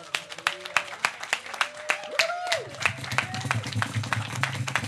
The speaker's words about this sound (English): Can we practice this? Can we clap our hands? Can we give a round of applause to Jesus, to God?